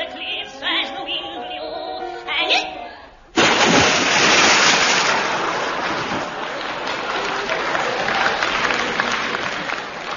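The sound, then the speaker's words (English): A voice speaks briefly, then a loud, sudden splash into water bursts in, followed by several seconds of heavy churning and sloshing that gradually eases. “We interrupt that splash to give you a police message.”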